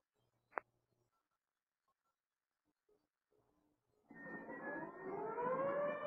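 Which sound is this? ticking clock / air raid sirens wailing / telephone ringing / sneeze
air raid sirens wailing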